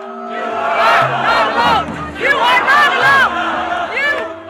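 A large crowd at an Extinction Rebellion protest in the Netherlands against fossil fuel subsidies chants "Climate justice!" and shouts continuously, with hundreds of onlookers cheering them on; rising and falling cries and whoops, steady and loud throughout, over a low sustained hum.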